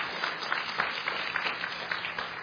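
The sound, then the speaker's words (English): An audience applauds news of a Christian radio station broadcasting the gospel in Baghdad, Iraq, many hands clapping in a dense, continuous patter with small swells, and no one speaking over it. “And I think we can clap on that.”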